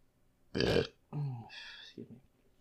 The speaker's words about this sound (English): Oh gosh, comes another burp.